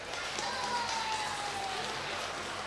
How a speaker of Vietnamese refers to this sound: Cho nên nếu các con cam kết là trả iPhone, iPad lại cho cha mẹ đó, thì cho một tràng vỗ tay thật lớn lên nào.